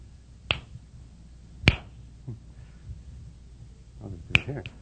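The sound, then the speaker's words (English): Three sharp finger snaps ring out at uneven intervals, each a crisp bright crack that fades instantly, with a faint murmur of low voice sounds between them. “Okay, that's a snap, of course.”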